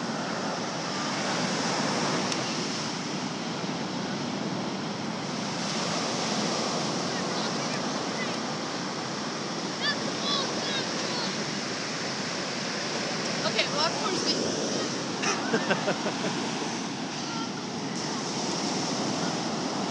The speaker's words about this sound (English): I'm watching the waves for you.